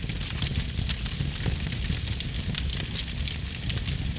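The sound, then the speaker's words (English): A spreading household fire at night: a steady roar of fire with a low rumble underneath and dense, irregular crackles and pops flickering across the top, continuous for a few seconds with no voices. “In the middle of the night, there are two sounds a spreading household fire can make. Here's the first.”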